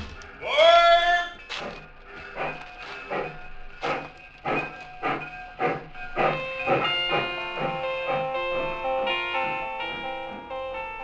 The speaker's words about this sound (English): I stood there on the embankment as the train pulled away.